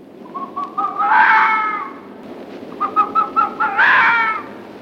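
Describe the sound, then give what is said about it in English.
A vixen searching for a mate in spring gives her mating call twice, each time a run of short, stuttering yelps that swell into a loud, harsh, wavering scream, with no talking. “many doubted their presence as, in the spring, vixens searching for a mate make a very distinctive noise.”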